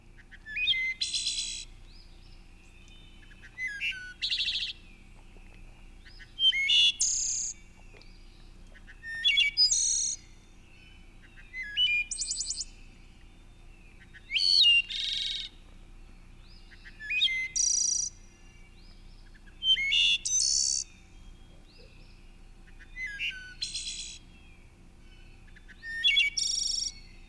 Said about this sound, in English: So those were some of the details of some of the songs of the wood thrush.